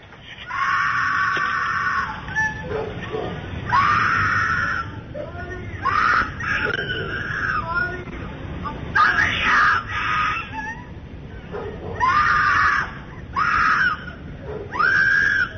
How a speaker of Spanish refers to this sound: Ok, esos gritos, si ustedes hablan poquito inglés, van a poder entender que la mujer que está gritando repite en varias ocasiones, ayúdenme, por favor, ayuda, por favor. Es una mujer que pide gritos, ayuda a gritos, debería decirlo